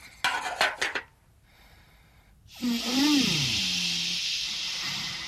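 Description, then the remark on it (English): A kettle being heated for tea gives a few quick metallic clatters, a short lull, then a loud, steady hiss rising as it heats, with a wavering tone bending underneath. No one speaks. “Nobby, take that kettle off of Errol.”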